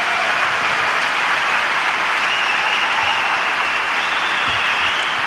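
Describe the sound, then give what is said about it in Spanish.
A large crowd in the Martín Carpena arena gives Rafa Nadal a sustained ovation: dense, continuous clapping roars steadily at full volume for the whole stretch, a thick hiss of hands with no voices speaking over it. “La gran ovación en el Martín Carpena para Rafa Nadal.”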